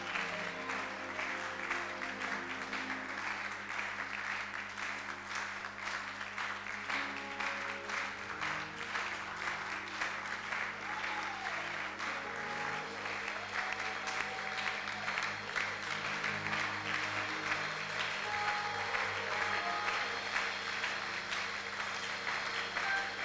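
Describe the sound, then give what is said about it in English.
A church audience claps to the Lord steadily for over twenty seconds, a dense, continuous wash of many hands with an even loudness, while a sustained low musical drone and faint tones sit underneath. “Oh, let's keep clapping, let's keep clapping, let's keep clapping.”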